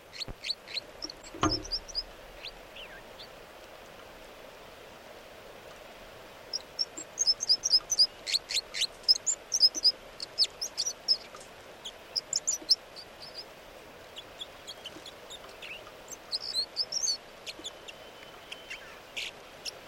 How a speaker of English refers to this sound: And these are the vocalizations of song of bird 305.